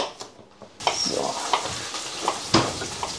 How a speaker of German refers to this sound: Was hier so schön vor sich hin brutzelt, sind natürlich unsere Würstelstücke. Ich finde, auch hier kann man sich bei der Salsiccia ruhig ein bisschen Zeit nehmen und nicht auf Vollgas, sondern so mittlere bis hohe Hitze,